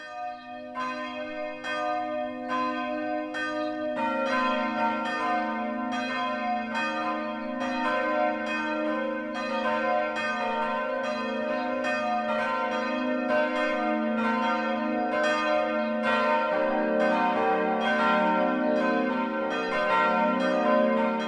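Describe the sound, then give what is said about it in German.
Four new church bells of the Evangelical Lutheran St. Jakobskirche in Dürrenmungenau, part of Abenberg near Nuremberg, Germany, ring the 12 o'clock midday peal together: soft, round tones overlapping and swelling at a steady loudness for the whole stretch, with no voices. “Kein eiserner Schriller, sondern der weiche, runde Klang von 4 neuen Glocken lädt seit kurzem in die St.”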